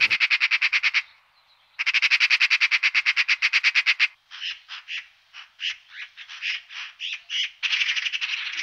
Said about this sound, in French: Pour l'instant, on coche ce qu'on voit comme oiseau, on entend les sons des oiseaux, et après on les coche sur notre fiche pour savoir quel oiseau il y a.